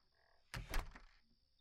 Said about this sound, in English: In fact, I'll even unlock this door for you. There. Come on in.